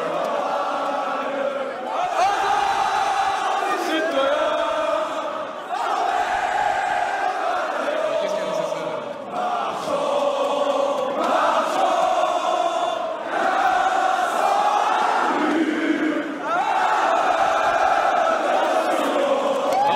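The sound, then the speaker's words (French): A large crowd sings the French national anthem, La Marseillaise, together in unison, a loud, sustained chorus of many voices with swelling phrases, continuing throughout. “Ils sont en train de chanter la Marseillaise. The national hymn for the French.”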